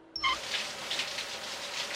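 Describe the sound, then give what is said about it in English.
A short squeaky tone gives way to a steady, hissing splash of urine streaming into water as Homer whizzes with the door open, lasting about two seconds with a gently fluctuating level and no voices. “I'm whizzing with the door open, and I love it!”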